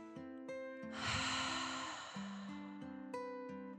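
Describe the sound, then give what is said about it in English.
A deep, airy breath drawn in and let out over about a second, fairly loud, set against gentle sustained musical tones that continue before and after. “Upon reaching the cozy cave, the dragon took a deep breath in and out.”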